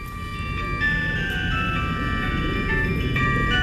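A Nokia mobile phone ringtone plays a steady, tinny electronic melody of high sustained tones over a constant low rumble of background noise, with no talking.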